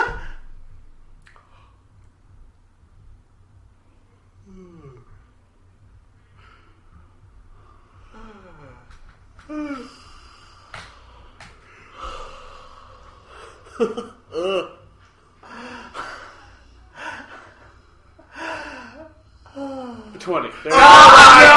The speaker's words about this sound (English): Isn't that awful? It's awful. Isn't that the worst thing in the world? And you know what? There is time in there for a really comfortable yawn. Yeah. But that was over about halfway through. Yeah. 10 seconds is a long yawn. Oh, that's a big time yawn